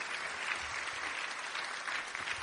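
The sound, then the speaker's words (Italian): Steady audience applause of thanks to the Father fills the whole stretch, a dense wash of many hands clapping at once, moderately loud and continuous with no voices breaking through. “Tra l'altro io chiuderei con un ringraziamento, un applauso.”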